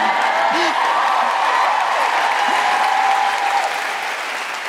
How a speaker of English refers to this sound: feel free to cheer and clap.